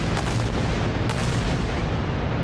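Heavy artillery bombardment across the Gaza coastal enclave at night: a continuous roar of deep, rumbling explosions with sharp bursts standing out, loud and dense throughout, no voices.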